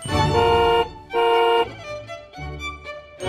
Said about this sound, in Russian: Она торопилась, потому что снизу уже сигналила машина очередного поклонника.